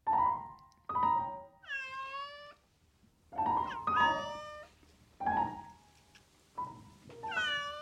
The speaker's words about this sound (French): Cette nuit, j'ai eu pour une fois un petit compagnon. Le chat de la cuisine que j'ai emprunté pour qu'il détruise quelques souris.